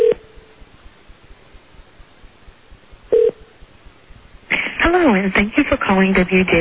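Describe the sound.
Two rings of an outgoing phone call to a coworker, tinny ringback tones about three seconds apart over a phone line, unanswered, before her recorded voicemail greeting starts speaking.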